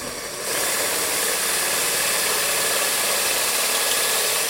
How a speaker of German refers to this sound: bohrt den Stalagmiten mit einem speziellen Aufsatz auf dem Bohrer an. Später wird er das noch an zwei anderen Stalagmiten tun. Nach weniger als einer Minute steckt die erste Probe im Bohrkopf.